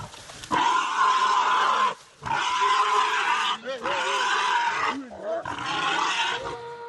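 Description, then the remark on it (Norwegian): Frantic, loud, chaotic animal commotion with harsh squealing and snarling roars in several long bursts separated by brief pauses, as five large dogs bite into the throat and ears of a wild boar fighting for its life, on a video. “På skjermen har 5 svære hunder bitt seg fast i halsen og øra til et villsvin som kjemper for livet.”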